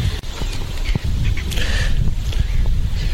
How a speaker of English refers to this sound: we're walking along, the birds are singing in the background, lots of undergrowth